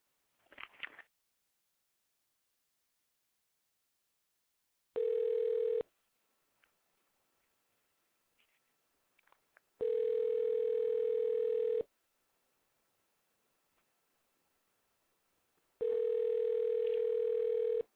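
telephone ringing tone

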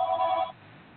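telephone ringing

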